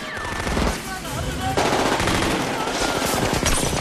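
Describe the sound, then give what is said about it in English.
Dense, sustained gunfire in a compound with rapid overlapping bursts and sharp cracks coming from several directions at once, bullets peppering a car, loud and continuous throughout, with faint voices buried in the chaos. “As the bullets begin to fly, they take refuge behind a car, and the chassis is soon peppered with bullet holes from all directions.”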